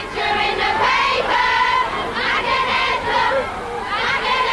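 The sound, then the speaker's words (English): A dense crowd of fans screaming outside the Radio 1 studios in central London on Radio 1's stereo switch-on day, high-pitched, overlapping shrieks, steady and loud throughout, with brief surges of sustained wailing tones rising above the din. “Tonight, really, outside Radio 1, screams, smiles and swoons outside the Radio 1 studios.”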